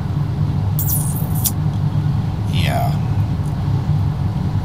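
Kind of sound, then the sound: vehicle, car interior noise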